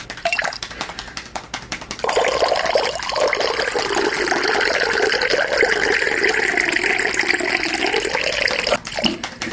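water being poured

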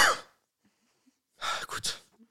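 coughing

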